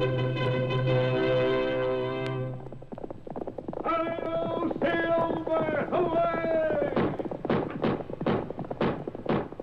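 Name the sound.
galloping horse hooves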